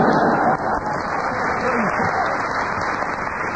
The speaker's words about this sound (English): Paul, because of the audience applause, I will give you a bonus point because I enjoyed the challenge.